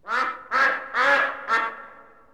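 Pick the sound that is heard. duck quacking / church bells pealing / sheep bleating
duck quacking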